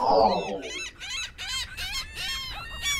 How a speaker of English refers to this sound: No trip to the beach would be complete without a swarm of hungry gulls. But don't get distracted, because one of those gulls may soon go after your food.